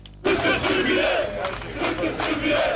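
A large crowd chants loudly in unison in the streets of Belgrade, Serbia, at night after the polls closed on a constitutional referendum, their massed voices rising and falling in a rhythmic, shouted refrain, "Kosovo is the heart of Serbia", that starts abruptly and carries on without a break.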